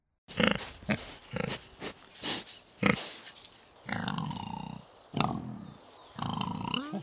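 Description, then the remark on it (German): Wild boars in the Marchfeld grunt in a rapid series of short, rough snorts, then shift into longer, drawn-out squealing grunts. The sounds are fairly loud, with no talking. “Wildschweine waren im Marchfeld immer schon anzutreffen.”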